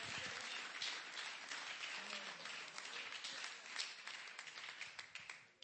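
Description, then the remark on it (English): An audience claps hands together, a dense crackle of many overlapping claps that stays steady and fairly loud before tapering off near the end, with faint voices underneath. “Come on, clap your hands to the klatscht Lord.”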